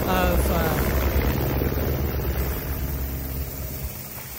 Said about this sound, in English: And a lot of people thought, oh man, you're jumping out of a helicopter, that's so awesome. And I love that thought. But, you know, you don't jump out of the helicopter. It actually lands.